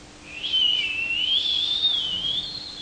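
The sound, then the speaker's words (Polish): A person whistles a single long, high, airy tone that slowly wavers up and down, imitating wind singing through the grates of a train stopped in an open field. It lasts a couple of seconds. “Przez tamte kratki jakieś takie. Ten wiatr śpiewał.”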